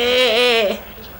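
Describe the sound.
A single person's voice imitates a sheep's bleat: one fairly loud, wavering 'meh' lasting under a second, with a trembling pitch, then quiet.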